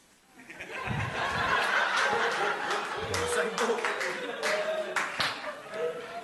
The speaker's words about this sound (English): Don't know what he's clapping me for. He's got to take her home. He should be clapping him.